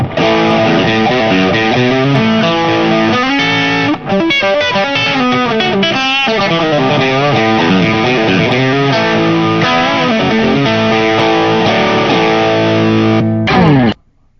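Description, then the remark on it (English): Heavily distorted electric guitar, played through a Hotwired distortion pedal, plays loud, saturated chords and riffs for about fourteen seconds, with a thick, fuzzy sustain and no talking, cutting off abruptly at the end. “do you have a clip of the Hotwired?”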